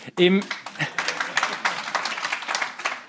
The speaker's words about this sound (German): Im spontanen Applaus schliesse ich, dass das offenbar auf Zustimmung gestoßen.